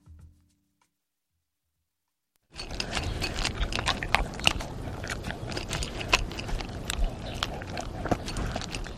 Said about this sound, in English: I haven't suddenly lost my manners. That's a dog eating his dinner. And what's on the menu? Well, dog food and a nightly dose of Prozac.